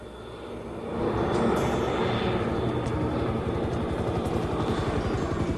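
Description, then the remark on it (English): A helicopter's rhythmic rotor thumping and the droning engine of a light aircraft swell in quickly and hold loud, with no voices, as Gene's chopper and the light aircraft approach over the jungle toward smoking wreckage. “They walk away from the smoking wreckage as Gene's chopper and the light aircraft approach.”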